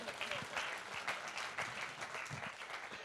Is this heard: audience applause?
yes